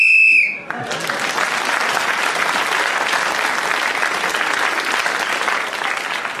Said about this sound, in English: Oh, Clement Freud kept going with his indoor sports till the whistle went, gained an extra point and has increased his lead.